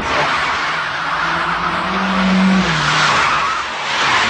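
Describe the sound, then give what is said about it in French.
A car engine revs hard as the vehicle pulls away, tires squealing and skidding over a loud, steady roar that swells midway and persists for several seconds, with no voices. “Et c'est vrai que je peux conduire, en tout cas en voiture, très influencé par le son de la voiture.”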